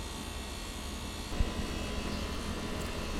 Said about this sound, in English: This is the MZR H1. I'm standing out by my air conditioner unit again, and you can tell what the limiter is doing. You hear the volume of the air conditioner turning down almost every time I say a word.